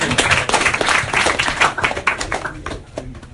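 An audience bursts into applause, a dense crackle of many hands clapping at once that holds steady for a few seconds before thinning out and fading toward the end.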